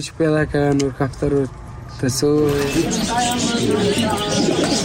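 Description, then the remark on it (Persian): Caged pigeons coo in a series of short, repeated, rolling calls, fairly loud, at the bird-selling lane of Kabul, Afghanistan, beside a big cage of colourful pigeons; then the busy murmur of a crowded market with voices takes over. “کوچه کافروشی، محله فروش پرنده ها در کابل هم مثل گذشته پر جنب و جوش نیست.”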